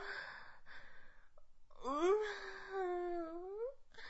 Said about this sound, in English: Show me how desperate and how primal you are for this. Whimper as loud as you want.